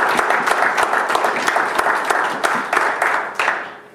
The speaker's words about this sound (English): If that makes sense to you, give the Lord a hand of applause.